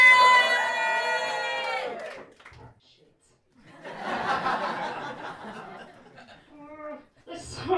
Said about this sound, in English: Give me a cheer if you please